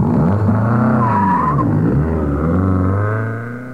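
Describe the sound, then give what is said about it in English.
A car engine revs hard and pulls away, driving to a hall, its pitch climbing and dropping with a brief tyre squeal, the roar fading slightly at the end. “we ran all the way back to El Norman's, piled in, and drove to the hall instead”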